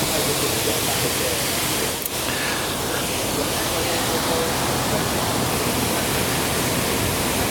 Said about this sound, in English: and so we're basically every lock we go into, we need to fill that lock with water and raise the ship up as we go further in. They tie us down when they get in the lock. There we go. The water is now rushing in to the lock.